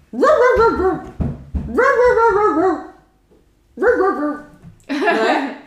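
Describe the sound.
A person reading a farm-animal picture book aloud imitates a dog barking with four loud, drawn-out voiced woofs, separated by short pauses, the last one rougher and breathier.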